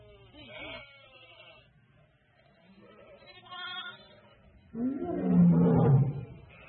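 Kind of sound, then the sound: animal, lion roaring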